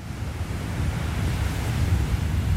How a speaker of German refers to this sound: Sanfte Wellen schlagen ans Ufer, schwemmen mit jeder Bewegung neue Algen an den Strand.